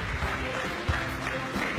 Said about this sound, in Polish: Pani Joanna Kopcińska, minister w rządzie premiera Mateusza Morawieckiego. Ogromne brawa. Ogromne brawa dla pani minister.